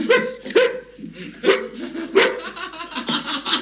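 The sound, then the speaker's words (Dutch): Several dogs bark on command in a quick series of sharp, loud yaps, about five bursts spaced unevenly over a few seconds, with some overlapping barks and a brief human laugh mixed in. “Zijn die honden zo gehoorzaam dat ze ook op bevel wel eens een keertje willen blaffen?”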